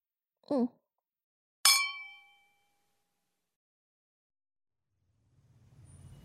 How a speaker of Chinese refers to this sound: 老板，咱们干杯吧。